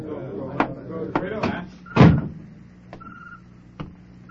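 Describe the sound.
A heavy tavern door is pushed open with a series of wooden knocks and rattles, one loud thud, and a thin creaking squeal, over a low murmur of indistinct voices from a crowd.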